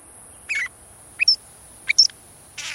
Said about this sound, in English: We're hearing a northern shrike, a robin-sized pale gray bird with jet-black mask and wing bars. This quirky and metallic song, which it sings even in winter, belies a rather bloodthirsty feeding habit.